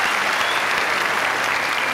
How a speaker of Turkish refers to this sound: Orkestraya. Orkestraya bir alkış istiyorum.